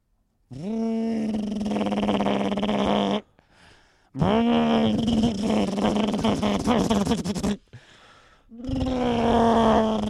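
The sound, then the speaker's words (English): A car engine repeatedly fails to start: three harsh, buzzing bursts, each rising briefly in pitch, then droning steadily before cutting out, with short quiet gaps between attempts. “I'm just going to start the engine.”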